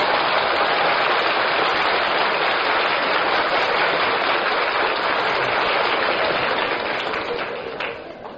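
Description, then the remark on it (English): An April rain shower: steady, dense rain patters down in a continuous hiss of countless drops, holding an even loudness throughout before easing slightly at the very end. “It's an April shower.”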